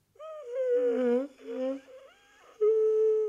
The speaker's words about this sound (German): Verschling mich nicht vor lauter Gähnen. Also halt wenigstens die Hand vor den Mund.